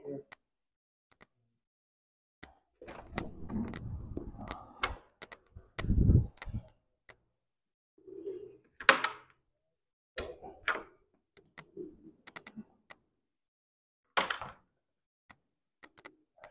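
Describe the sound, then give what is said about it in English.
A door is opened a little to let air into a stuffy room during a lecture: sharp latch clicks, then a rustling, scraping stretch and a heavy thunk, with scattered taps and faint murmurs of voice afterward. “You guys mind if I open the door a little bit?”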